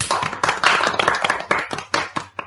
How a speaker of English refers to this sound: Let's give a big clap to our friends.